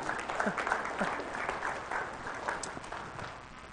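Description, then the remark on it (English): An audience claps steadily in celebration of a debt wiped out through fundraising, a dense patter of many hands holding at a moderate level for several seconds without fading. “And yeah, you guys can clap if you want.”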